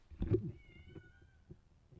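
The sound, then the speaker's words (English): A cat lets out a drawn-out, wailing meow that starts with a sharp burst and trails into a thin, high whine, heard on its own with some background noise. “There's that cat. Can you hear that?”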